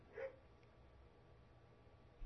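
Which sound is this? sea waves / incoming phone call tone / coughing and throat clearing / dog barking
dog barking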